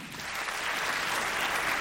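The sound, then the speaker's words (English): An audience claps to answer whether they knew their spouse three years or less before marrying: many hands clapping together in a dense, even wash of sound that stays loud and sustained throughout, with no voices standing out. “Clap if it was 3 years or less.”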